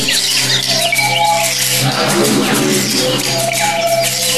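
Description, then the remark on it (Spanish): A dense wash of many birds perched on the branches of a tree, so many that they cover it, chirping and squawking at once, a steady, busy chatter filling the air with no pauses. “Y todos se posaron en las ramas del árbol. Y eran tantos que el árbol quedó todo cubierto por ellos.”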